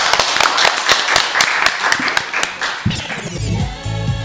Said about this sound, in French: On peut l'applaudir encore une fois.